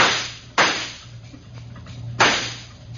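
gunshots

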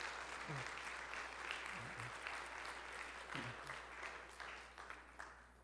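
audience clapping

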